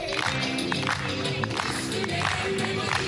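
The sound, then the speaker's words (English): Boğaziçi University professors in Istanbul clap in a steady rhythm along with lively music, celebrating President Recep Tayyip Erdogan's dismissal of their rector; sharp hand beats layer over a sustained, melodic backing with a faint crowd murmur. “Boğaziçi University professors clapped to music in celebration of President Recep Tayyip Erdogan's dismissal of their rector, Melih Bulu, by a midnight presidential decree.”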